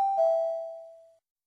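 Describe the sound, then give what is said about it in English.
A single clear electronic chime tone, a prompt in a listening exercise telling the listener to speak, with a sharp bright attack followed by a steady mid-pitched ring that fades out after about a second, with no voices. “Listen and speak after the tone.”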